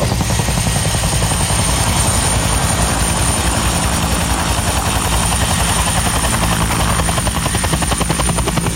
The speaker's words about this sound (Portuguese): Ó, que maravilha, já tá chegando por aqui, o helicóptero tá descendo com ele a bordo.